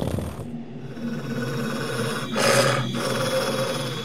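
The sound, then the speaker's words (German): A low, rumbling growl drones steadily from an unseen creature, with a brief harsher swell in the middle before settling back into a quiet, throaty rumble. No one speaks. “Aber ihr hört auch ein leises Knurren.”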